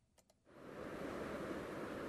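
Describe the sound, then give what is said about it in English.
The Arkansas River, partly covered in thin ice, rushes steadily at the Arkansas Headwaters Recreation Area Visitor Center in Salida on a bright sunny day around 30 degrees, a dense, continuous wash that fades up after a brief quiet start with two faint clicks, then stays loud with no voices. “I'm standing here on the banks of the river at the Arkansas Headwaters Recreation Area Visitor Center in Salida.”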